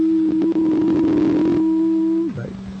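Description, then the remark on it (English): A steady, high ear-ringing tone holds over crackly static and muffled background noise, then drops abruptly to a lower pitch near the end as the sound briefly wobbles. “Ringing in your ears there? And the static to go with it?”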